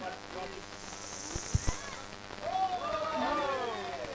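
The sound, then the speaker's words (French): Rain falling as a soft, steady hiss in the background, with a couple of brief knocks near the middle and a voice speaking over it in the second half. “Bon, le bruit de la pluie, c'est pas moi qui ai décidé, c'est totalement...”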